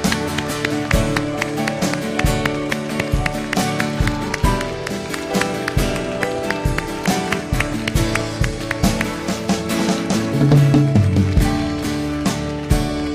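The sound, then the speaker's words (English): An audience claps hands in praise, a dense, steady rhythm of sharp claps running throughout, with sustained musical tones humming underneath and no clear speech. “Submit it today with your hand clap.”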